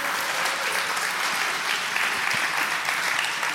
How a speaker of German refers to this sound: Deswegen geben wir denen noch mal schnell einen Applaus. Chaos macht Schule.